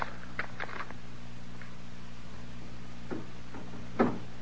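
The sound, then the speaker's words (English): A door being rattled by somebody working it, not by the wind: a scattered series of soft knocks and clattering jolts at irregular intervals, the sharpest one near the end, over a low, steady hum. “There's somebody working the door that way.”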